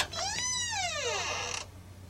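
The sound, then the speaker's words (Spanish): A door creaks shut with one drawn-out hinge squeal that rises and then slides down in pitch over about a second and a half, with no voices. “Espera que cierro la puerta.”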